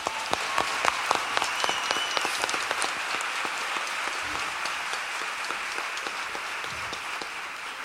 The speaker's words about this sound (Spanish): De verdad que muchísimas gracias y aplauso por ustedes por venir esta noche. Gracias.